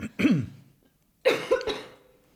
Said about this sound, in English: I'm just going to cough real quick.